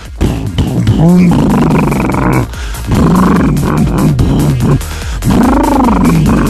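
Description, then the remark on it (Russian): A man's voice imitates the exhaust sound of a revving car, as one would for an electric Challenger, with loud, throaty roaring bursts, three long rumbling swells with rising and falling pitch and brief gaps between them. “Как теперь Амигасы будут на электрических челленджерах звук выхлопа издавать.”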